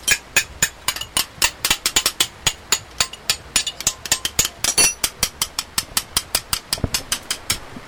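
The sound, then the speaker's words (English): A hammer rings sharply on metal against an anvil in hand forging, striking rapidly and steadily, about four blows a second with a few quick doubles, loud, with a low background hum and no talking, in a workshop with a clay fire on the ground and leather bellows. “hand forged with a hammer on an anvil”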